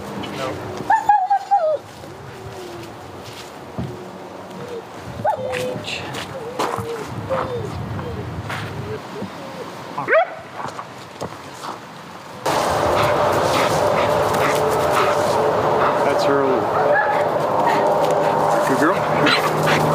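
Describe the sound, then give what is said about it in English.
A dog barks in scattered short bursts and lets out a few high whimpers. Partway through, a steady rushing noise rises and continues under everything. “I'm not satisfied, but we can run the dog one more time just to see what happens.”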